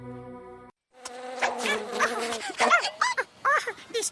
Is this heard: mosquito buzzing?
yes